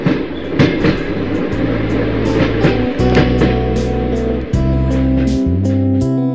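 A passenger train rolls steadily past railway stations, its wheels clacking over rail joints in a repeating rhythm above a loud, low rumble and droning hum. Continuous, with no voices.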